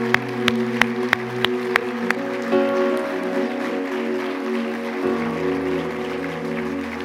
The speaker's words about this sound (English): Now, if you believe God, clap your hands and give him praise. Hallelujah.